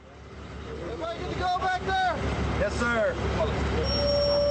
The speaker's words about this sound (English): After two helicopter flights and a lumbar-wrenching ride in a 7-ton cargo truck, a team of American military and civilian officials from Baghdad makes its way to Walid, a dusty, crumbling collection of buildings at the Iraqi-Syrian border.